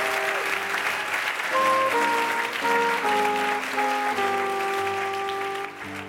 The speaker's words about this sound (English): All right, let's give a round of applause getting through the lightning round.